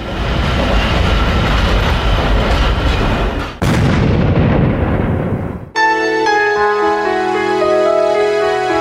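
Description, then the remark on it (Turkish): A loud metro train rumbles and roars steadily for several seconds with a brief break midway, then the noise cuts abruptly into sustained, tonal music. “Və 58 il sonra onun özü metro qatarında törədilən terror haqqında yaşamını itirdi.”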